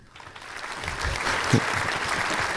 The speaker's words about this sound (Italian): Sono partiti gli applausi così senza... Ah, cioè qualsiasi... tu puoi metterli così. Sì, sì, posso mettere, cioè, applausi.